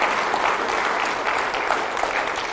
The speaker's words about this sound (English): Maybe let's clap to the Lord this morning. Tell him thank you for his goodness. Hallelujah.